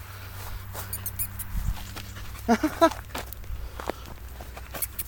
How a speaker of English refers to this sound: You hear it? You hear it squeaking? It's a little baby. I don't know whether it's a vole or a mouse. Doesn't look too happy though. It's not moving very quickly.